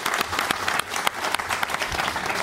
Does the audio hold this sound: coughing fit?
no